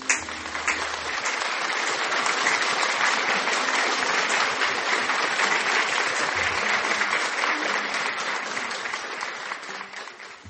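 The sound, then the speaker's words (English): A crowd at a religious gathering claps for the Holy Ghost steadily and loudly for about ten seconds, a dense, sustained wash of applause that stays even throughout before easing slightly at the very end. “Applaud, applaud for the Holy Ghost.”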